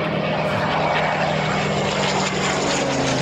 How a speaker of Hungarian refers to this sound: Van egy ilyen Spitfire Goodwoodban? Van egy, igen, egy Spitfire 9-es, ami még ugye Merlin motoros, nem Griffon, mint a későbbiek.